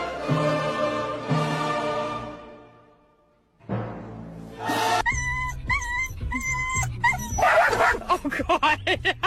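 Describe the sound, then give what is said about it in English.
A voice imitates a dog, letting out a quick run of loud barks and high yips that waver in pitch, following a stretch of drawn-out vocal sound. “Woof!”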